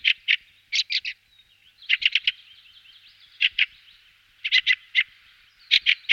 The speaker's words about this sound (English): Field fares call to each other in triple quacks.